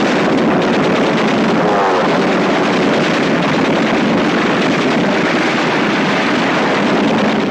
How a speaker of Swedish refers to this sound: Från finska sidan kommer båtar med tyska desertörer och sårade.